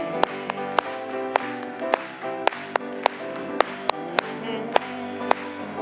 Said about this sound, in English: Praise the Lord. Let's just clap it to Him.